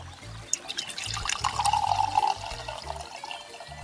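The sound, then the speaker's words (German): Seeräuber brandy poured into a glass on a terrace, a steady trickle with a rising gurgle in the middle and a faint clink at the start, lasting a few seconds with no talking. “Ich nehme ein schönes Glas hier Seeräuber Brandy. Warte mal. Genau. Ich muss einschütten hier.”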